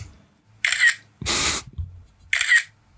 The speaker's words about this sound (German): Warte, ich schieße nun ein Foto und mein Handy ist auf Silent.